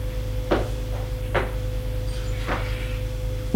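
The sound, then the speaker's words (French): A man opens a bedroom door with a few soft clunks and rattles of the handle spread over a few seconds, then a louder knock at the end, over a steady low hum. “Il ouvre la porte”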